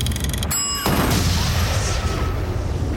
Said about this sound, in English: The car explodes and bodies engulfed in flames fly onto the pavement.